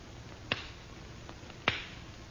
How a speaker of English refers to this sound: I have only to clap my hands lightly, monsieur. Over the flame in the bowl. And see, awake. I will do it.